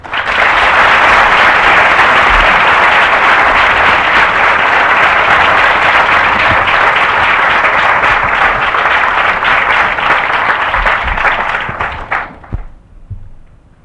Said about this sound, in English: Please, having clapped him in, give him yet another clap and welcome him to the podium.